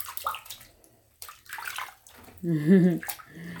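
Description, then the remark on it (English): Bath water pours and splashes over hair in short bursts, with a brief vocal sound from a person partway through. “Can I make your hair a little bit wet too?”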